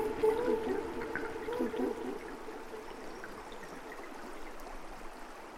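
The Cérou river flows steadily with a continuous rushing, gurgling wash. Some warbling tones rise over it in the first couple of seconds, then the water carries on alone at a moderate, even level.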